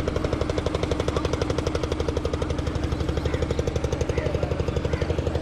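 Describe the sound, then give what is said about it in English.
A boat engine chugs steadily as the boat goes by on the Ganges river, its rapid, even pulses thudding loud without pause, with no voices over the mechanical rhythm. “Just listening to that engine.”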